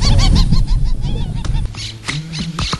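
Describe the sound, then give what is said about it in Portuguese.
A loud, busy chorus of wild birds calling, with repeated honking, goose-like cries overlapping in rapid bursts throughout, and no voices, in an area home to about 400 bird species. “Parece que elas têm uma música para cada missão.”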